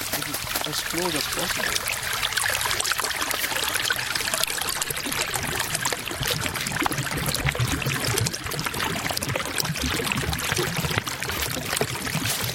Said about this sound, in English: He's made an arrow in the snow pointing to a spot where the water flows over a pile of rounded pebbles. He encourages me to put my ear as close as possible to the water.